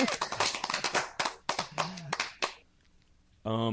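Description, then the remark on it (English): A loud burst of scattered applause, many irregular sharp claps overlapping for a couple of seconds before dying away, followed by a short sustained voiced tone at the end. “See, this applause thing is good.”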